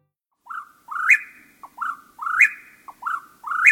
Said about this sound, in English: Where did you grow up, and what birds did you hear? Is this sound of the whippoorwill at dusk part of your memory?